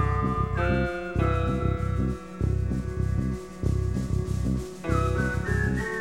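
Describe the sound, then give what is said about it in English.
A whistled cry imitating a hawk's call slides upward twice, near the start and again near the end, riding over a steady, rhythmic musical backing with a thumping low beat. “And a hawk whistles and he kneels and he lays down there.”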